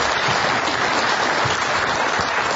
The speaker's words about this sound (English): Well, you can have a sit down and you heard that round of applause and people really appreciated your honesty.